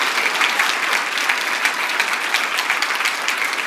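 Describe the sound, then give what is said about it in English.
A crowd applauds steadily and fairly loudly for people who have stood up to start following Jesus, many hands clapping in a dense, continuous patter that holds at an even level throughout, with no voices standing out. “Just so you know, these folks are clapping because we know what it's like to start a journey with Jesus, and we've been down the road a bit, and I will tell you, it is an adventure like nothing else on the planet.”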